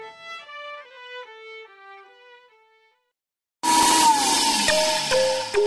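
A gentle tinkling melody plays for a few seconds, then after a brief silence a loud blender roars to life, its motor whining steadily with harsh grinding noise until the end.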